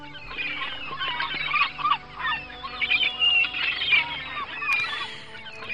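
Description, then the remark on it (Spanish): A flock of seagulls calls continuously outside, by a shipowners' cooperative building, their harsh, overlapping squawks and cries breaking an otherwise quiet scene at a steady, moderately loud level, with no one speaking. “Fuera hay poco movimiento y demasiado silencio, tan solo roto por el continuo sonido de las gaviotas.”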